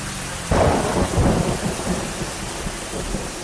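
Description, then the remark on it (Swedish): A sudden thunderclap bursts in and rolls off into a low, lingering rumble, while heavy rain hisses steadily throughout. The storm sounds loud, with no voices. “Augusti 2009 går till historien som en av Sveriges mest regniga månader.”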